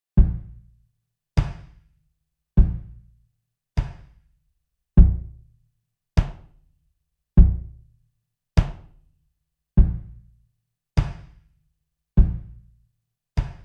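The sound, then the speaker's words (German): A bass drum with added reverb from Cubase's Reverence strikes twelve times at a steady, even pace, each deep thump trailing off in a short, smooth tail. No voices or other sounds. “So klingt jetzt die Bassdrum im Original. Und jetzt habe ich Reverence von Cubase dazu genommen.”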